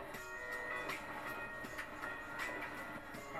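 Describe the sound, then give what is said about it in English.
A subway train runs steadily along the rails at a subway station, a continuous loud rumble and metallic whine with faint periodic clacks, with no voices. “At subway station.”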